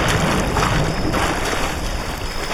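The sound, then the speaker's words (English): Water in a lake splashing and churning steadily, loud, a dense continuous wash of sound with no voices over its short length. “Oh, we discovered a thing, and we are now in a lake.”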